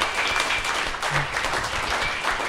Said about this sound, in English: Everyone, round of applause for Hayden Dibb.